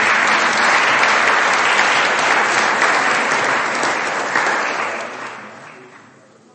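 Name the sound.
applause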